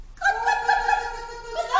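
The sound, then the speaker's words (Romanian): A hen clucks in one long, drawn-out squawking call that rises sharply near the end, fairly loud, with no talking around it. “Parcă aud cotcodăcii de găini.”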